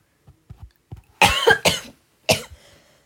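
coughing

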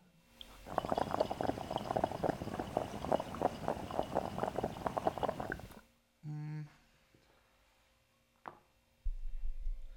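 water bubbling

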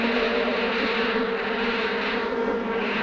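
swarm of bees buzzing

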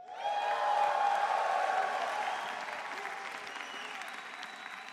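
audience cheering and shouting

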